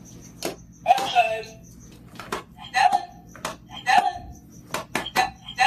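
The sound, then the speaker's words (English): A dog named Stella repeatedly steps on recordable word buttons for words like outside, play or water: a quick series of sharp plastic clicks in uneven rhythm, several followed by brief snippets of a recorded voice. “Here's some sound from the first video she put on Instagram, which shows a very insistent Stella stepping on her buttons.”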